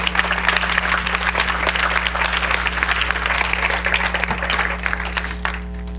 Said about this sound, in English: Somebody needs to give the Lord a hand clap of praise.